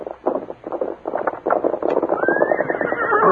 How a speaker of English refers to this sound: "Horse coming." "Yeah, that's probably Tonto. I'll open the door and see."